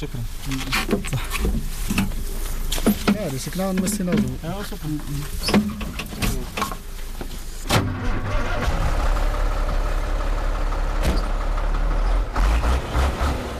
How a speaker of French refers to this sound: Rien à signaler, le camion peut repartir.